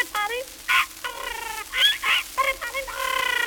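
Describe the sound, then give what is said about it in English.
A toy Poll Parrot squawks and chatters in a quick, irregular run of raspy, nasal calls, loud, with no other sounds around it. “And a Poll Parrot for the little boy who lives in the garret.”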